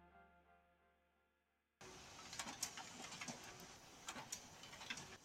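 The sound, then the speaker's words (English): A short musical tail cuts off, then a printer runs steadily in the background, a dense mechanical whir and rustle punctuated by sharp clicks and ticks as pages feed through, with about 120 more pages left to print. “Do you hear my printer in the background?”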